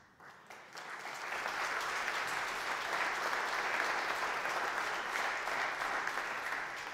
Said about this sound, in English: I don't deserve the applause, but thank you.